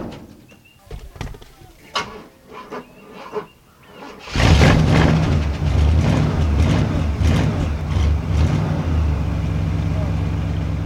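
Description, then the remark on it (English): The door of an old car in a front yard is worked open with a series of sharp clicks and latch rattles, then a loud, steady rumbling roar suddenly takes over and continues to the end. “I'm going to open the door and let you see what I got in here.”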